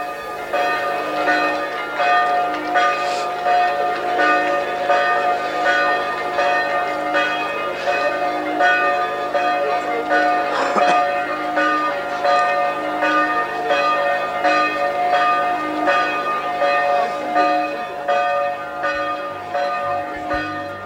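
Church bells peal continuously from the bell tower of the chapel of Mary of the Snows on Kredarica, Slovenia, at its consecration on 19 August 1992. Overlapping metallic strikes blend into a rich, ringing wash that stays loud and steady throughout, with no voices.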